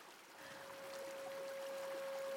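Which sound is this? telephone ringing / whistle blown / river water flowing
river water flowing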